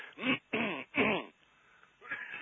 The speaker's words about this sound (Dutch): Zo, even een kucheltje.